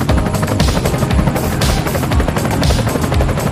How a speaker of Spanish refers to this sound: Es que el helicóptero que se ha quedado por ahí.